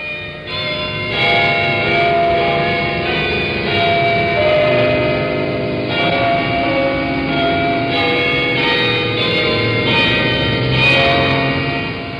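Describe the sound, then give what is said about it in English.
Church bells ring out on a Sunday in a loud, continuous peal, overlapping metallic tones swelling with fresh strikes every few seconds. No voices are heard. “Sunday, there are church bells.”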